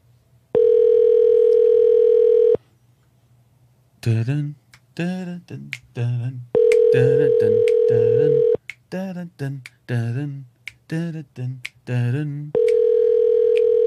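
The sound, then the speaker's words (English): A phone call rings out unanswered: three long, steady electronic ring tones spaced several seconds apart, loud, with people talking in the gaps between them. “Yep, no one's answering the goddamn phone.”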